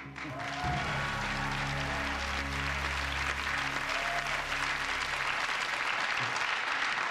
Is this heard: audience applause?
yes